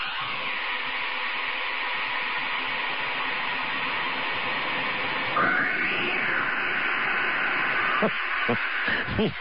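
A comic sound effect, made with some manipulation, of a cat being tossed into Mel's Hole: a wavering, yowl-like tone rises and trails off with an echo, over a steady hiss that sounds like a radio broadcast.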